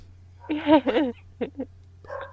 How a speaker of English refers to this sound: That could be funny for a prank if your dog starts barking in the background.